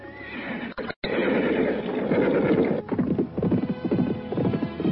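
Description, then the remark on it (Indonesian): Two ridden horses whinny loudly and repeatedly while their hooves clatter in a quick, galloping rhythm as they chase each other along a footpath lined with dense trees on both sides; continuous, with a brief break near the start before the noisy run resumes. “Kuda yang ditunggangi Restu Singgi dan Nilam Cahya saling berkejaran di jalan setapak yang kanan-kirinya penuh rimbunan pohon.”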